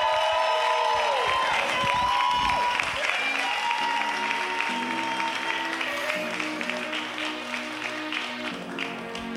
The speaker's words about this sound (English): I need y'all to go ahead and give her a lot of love. Like I said, if you feel like stomping your feet, do that. Clapping your hands, do that. Making some noise, do that.